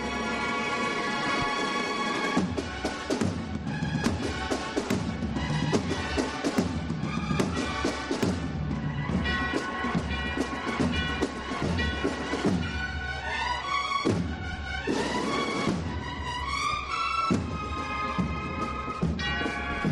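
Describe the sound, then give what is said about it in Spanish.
A Holy Week (Semana Santa) processional band piece plays loudly and continuously, accompanying a procession float, with a bell, an unusual instrument for such a band, ringing among sustained brass chords and steady drum beats, and no voices. “También a los tiempos, introduciendo algunos instrumentos poco usuales, como esa campana que estábamos escuchando en esta composición, que se enlaza con otra a continuación para acompañar los últimos metros del paso”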